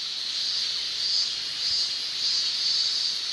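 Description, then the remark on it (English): A steady, dense buzzing drone of male periodical cicadas, as heard in the Chicago area in summer, high-pitched and continuous, swelling gently in a few slow waves with no pauses and no talking. “The chirping of the cicada. Just the males, by the way.”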